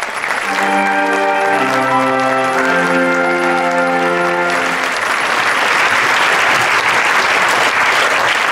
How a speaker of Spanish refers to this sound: ¡Aplausos para quienes nos están escuchando!